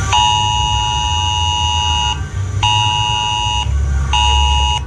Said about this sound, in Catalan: Avui Protecció Civil farà una prova del sistema d'alertes als mòbils tant a la demarcació de Girona com a la Catalunya Central.